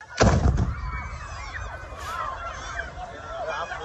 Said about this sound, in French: Vous entendez là une vidéo publiée par l'agence de presse officielle palestinienne Wafa. On y voit la foule qui se dirige vers le nord, visée par des tirs.